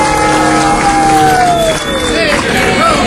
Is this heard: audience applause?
yes